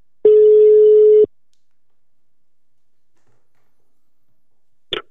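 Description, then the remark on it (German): A single steady telephone ringing tone sounds for about a second, loud, followed by silence and then a brief click as the line picks up, on a phone call to journalist Andrea Röpke. “Um das völkische Gesülze nicht allein einzuordnen, habe ich auch mit der Fachjournalistin Andrea Röpke telefoniert.”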